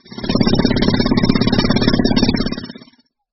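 A loud power drill runs steadily for under three seconds, its motor giving a rapid, rattling buzz before it winds down and stops.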